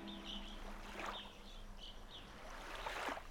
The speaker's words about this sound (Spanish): Siente cómo empieza a fluir y a moverse en formas circulares. Con cada sonido del agua, se mueve lento y fuerte.